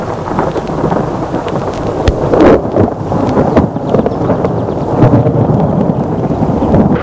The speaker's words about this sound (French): La nuit, elle dort dans son lit. Elle est réveillée par l'orage.